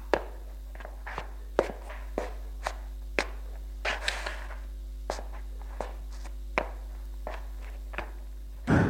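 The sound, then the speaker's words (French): Footsteps of a worried woman pacing nervously in a living room, a steady, quick rhythm of about fifteen sharp, fairly quiet taps over a low constant hum, with no voices. “Elle est au salon et marche nerveusement.”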